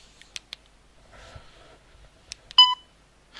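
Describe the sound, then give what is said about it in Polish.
A short, bright electronic beep with a clear tonal pitch sounds near the end, signalling the end of the external memory's contents, preceded by a few soft clicks and faint handling noise in otherwise quiet surroundings. “I piknięcie oznacza, że to już jest całość zawartości zewnętrznej pamięci.”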